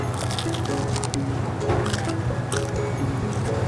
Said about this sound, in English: I got to say, the regular slice is very good, but it's actually the square slice, the Sicilian slice, that is completely rocking my world. And you just listen to what it sounds like when you bite into this pizza.